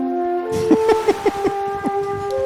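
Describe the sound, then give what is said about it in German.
A train sound effect: a steady, multi-toned horn chord holds throughout while a run of rhythmic clacks, about five or six quick beats, rolls beneath it before fading. “Haben wir so einen Zug-Jingle, der... Ja, ich hab was.”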